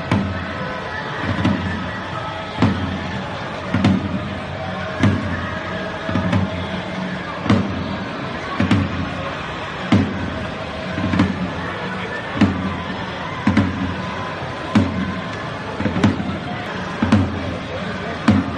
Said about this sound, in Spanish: Bueno, era el sonido ronco de ese tambor con un ataúd.